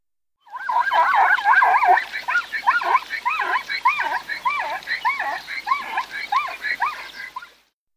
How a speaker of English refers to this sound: Zebras are surprisingly loud animals. The typical zebra sound to many sounds like a mix between neighing and hysterical laughter. Please listen closely.